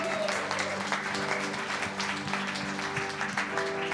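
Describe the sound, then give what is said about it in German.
An audience claps steadily for several seconds, a dense wash of many hands at a fairly even level with a faint low hum underneath and no voices rising above it. “Ich finde es schon Applaus wert.”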